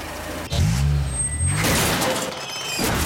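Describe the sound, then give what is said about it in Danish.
A car brakes hard with a loud squealing, groaning skid, then a burst of rough, crunching noise like a minor bump, fairly loud with no one speaking. “En skramme er kun skræmmende, hvis du ikke er ordentligt forsikret.”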